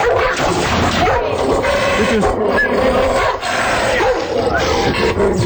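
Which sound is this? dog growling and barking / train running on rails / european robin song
dog growling and barking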